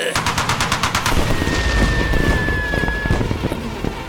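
A loud, sustained volley of cannon fire aimed at a zone of water: rapid, rhythmic bursts at first, then a dense, continuous barrage of overlapping shots, with a thin high whistling tone running through the middle.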